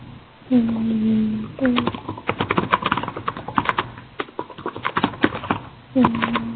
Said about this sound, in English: Okay, somebody's typing very enthusiastically.